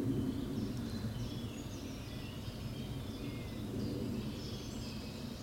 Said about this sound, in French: Le silence de cette forêt-ci. Juste à côté de la ville.